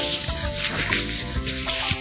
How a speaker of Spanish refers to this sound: Mi cuate toma el paquete de cerca de 30 hojas y comienza a ponerlas de a una en la ranura de la trituradora, escuchándose el sonido de cuando las hojas se hacen trizas.